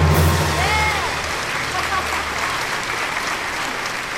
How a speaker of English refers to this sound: The Girl from Egypt. Now give us your applause and take it away.